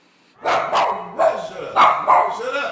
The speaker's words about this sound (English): A fluffy white handful of a dog greets visitors